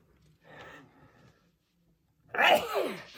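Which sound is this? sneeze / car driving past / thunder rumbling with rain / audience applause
sneeze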